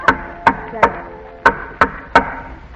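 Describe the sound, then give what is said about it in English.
Al Jolson knocking at the door of the Sleepy Slumber Sanitarium: two sets of three firm, evenly spaced knocks with a short pause between the sets. Each rap is sharp and hollow, with no voices. “As the scene opens, we find a very weary Al Jolson knocking at the door.”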